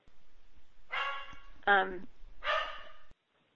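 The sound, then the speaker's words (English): A male dog barks three times in quick succession, loud, with one higher, more tonal yelp between two harsher barks, then silence. “are you okay there with your dog? Oh yeah, he's making sure that that nobody no planes land or nobody breaches the defenses.”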